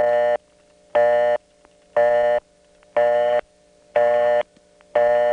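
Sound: telephone busy signal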